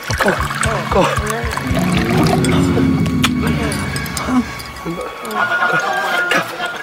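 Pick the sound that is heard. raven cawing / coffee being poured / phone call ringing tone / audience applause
coffee being poured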